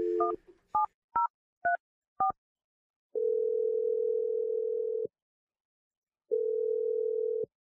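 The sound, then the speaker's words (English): Five short two-tone keypad beeps dial a phone number in quick succession, followed by two long steady ringback tones with a pause between them, clear with no talking. “Well, I'm going to dial Kenny's number and let you tell him what you did.”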